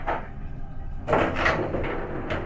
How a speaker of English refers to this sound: The elevator doors croaked open, and I shakily stepped inside, not taking my eyes off the creature.